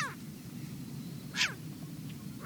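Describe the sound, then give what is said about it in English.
A short-eared owl gives harsh, raspy barking calls, one loud burst in the middle with shorter calls at the start and end, over a low steady background rumble. “It's a short-eared owl, an owl specially adapted to hunt during the day. Short-eared owls are found on grasslands and tundra, and along coastlines.”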